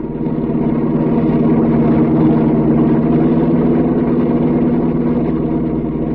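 A car engine roars steadily at speed as the car races down a mountain road, a loud, continuous mechanical drone with a throbbing low rumble that holds even for several seconds, with no voices.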